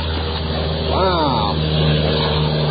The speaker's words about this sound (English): Another plane is taking off. Oh, look how low that is.